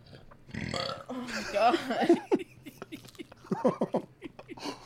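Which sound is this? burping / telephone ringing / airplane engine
burping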